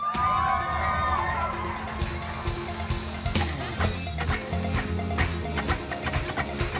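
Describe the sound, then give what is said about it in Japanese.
A large crowd shouts and cheers continuously, calling out to God, a dense wall of voices with high whoops rising early on, sustained loud throughout with scattered sharp yells. “皆さんもっともっと叫べます。神様に叫べますか？”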